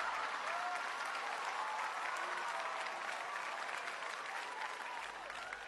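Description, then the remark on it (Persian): An audience applauds steadily, a dense wash of many hands clapping at an even level for several seconds, with faint voices mixed into the crowd noise. “یک چکچک و یک تشویق به افتخار ای بزرگ بارن.”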